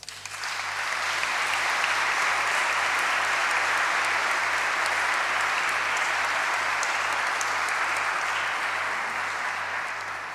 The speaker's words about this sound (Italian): anche per lui chiedo un applauso.